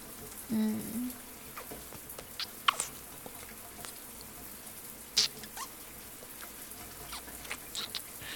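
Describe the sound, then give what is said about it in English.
A shower runs in a steady, soft hiss of falling water, with patter and a few sharp drips and splashes breaking through; a brief low hum sounds near the start. “Even over the sound of the shower, I can hear your little moans.”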